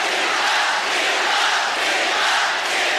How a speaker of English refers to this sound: At the 2008 Olympics in Beijing, she upset Venus Williams in the quarterfinals. Yeah! And the crowd went wild.